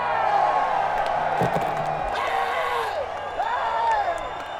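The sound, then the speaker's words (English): A large live crowd at a festival on a Friday night cheers and screams steadily, with loud overlapping whoops and shrieks rising and falling through a dense roar that never lets up. “If you feel good, you know, somebody might as well keep screaming and do it.”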